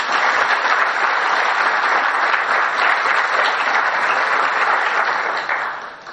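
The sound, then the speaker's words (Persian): Steady applause from an audience at a book presentation session, a dense wash of many hands clapping at an even, loud level for about six seconds before tapering slightly at the end. No voices stand out. “خواهش میکنم تشویقشون کنید.”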